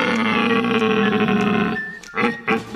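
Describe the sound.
A person imitates a red deer stag's roar: one long, loud, guttural bellow trailing off into a couple of short, rough grunts.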